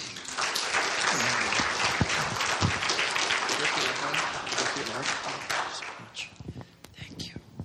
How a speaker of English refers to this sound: come and let's give him a clap.